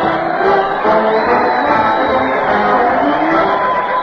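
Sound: crowd cheering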